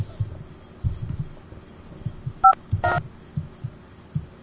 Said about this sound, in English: Asterisk? He's dialing.